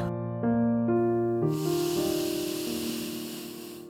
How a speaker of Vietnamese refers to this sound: Thở ra.